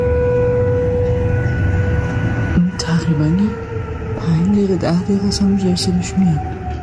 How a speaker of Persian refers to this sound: با وجود پافشاری مقام‌های جمهوری اسلامی بر کنترل اوضاع، اما وقایعی مانند شنیده شدن صدای آژیر خطر در پایتخت با شک و تردید از سوی جامعه روبرو می‌شود.